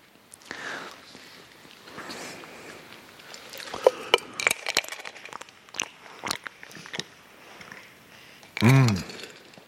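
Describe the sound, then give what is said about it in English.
Clinks and knocks of a white mug of water being picked up and handled in a sanctuary, then gulping and swallowing as someone drinks, ending with a brief louder burst near the end; a voice murmurs faintly at moments. “It's a white a mug of water outside the door there.”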